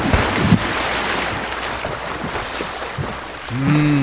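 Steady sea waves wash and rush along a beach shore with wind buffeting the microphone, a brief splash-like thump early on as someone takes a running start on the beach and jumps into the water, and a low tonal hum rising near the end.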